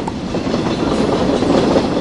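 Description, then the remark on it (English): A train rumbles loudly and steadily past on the tracks beside a clay tennis court in Buenos Aires, its dense low roar filling the whole moment with a faint rhythmic clatter of wheels running underneath. “his concentration only faltering when the sound of bouncing balls gives way to that of thundering trains.”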